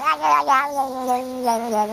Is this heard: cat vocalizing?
yes